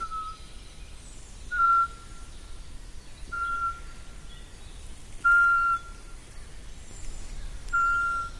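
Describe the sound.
A man imitates owl calls at dusk to call pygmy owls, with about five short, steady whistled hoots repeated at even intervals over faint outdoor background hiss. No one speaks.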